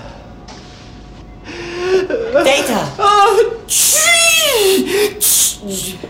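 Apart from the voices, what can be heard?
sneeze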